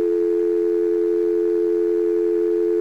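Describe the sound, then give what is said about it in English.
A steady, unbroken telephone dial tone from a university's digital switch hums at an even volume for the whole few seconds, clear, with no pauses, clicks or voices. “Okay, that's what our dial tone sounds like.”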